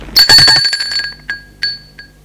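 household object, doorbell ringing

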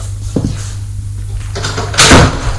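household object, knock on a door

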